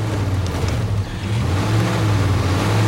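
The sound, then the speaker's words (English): A heavy truck engine roars loudly and steadily as the driver guns it and shifts forward, its deep droning hum climbing slightly in pitch as the vehicle revs and accelerates, with no voices over it. “She guns the engine, shifts forward and aims at the brute.”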